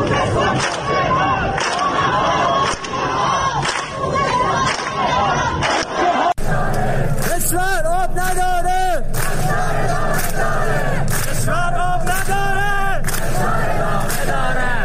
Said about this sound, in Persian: شعارها هم چیزی نبود جز از خوزستان تا تهران اتحاد اتحاد و کشور آب ندارد فشار ادامه دارد.